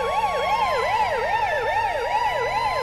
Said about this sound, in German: Nicht etwa, weil sie sich vor dem Inhalt fürchteten, sondern weil die Leute aufgrund der Sirenen am Straßenrand anhielten, den sie für einen Krankenwagen hielten, wenn der Song im Radio lief, was wiederum zu einigen unschönen Behinderungen führte.